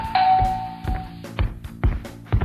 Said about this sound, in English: There's a doorbell. Hold on.